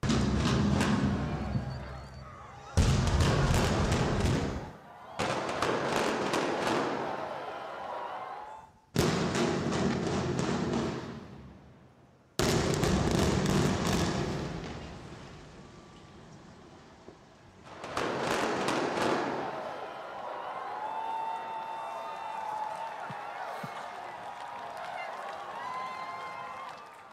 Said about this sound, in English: I don't know if you could just hear the cheers in the background, right? Because all of us locals, we're cheering it on because we're bored, right?